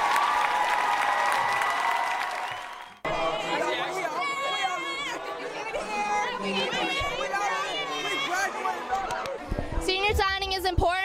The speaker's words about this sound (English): Our seniors, please stand. Woo! Turn around and give them a round of applause.